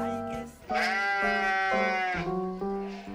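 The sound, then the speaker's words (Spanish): A voice imitates a sheep's bleat, holding loud, wavering notes that step up and down through a short melody, continuous for about three seconds. “Sí, ahí, con la oveja”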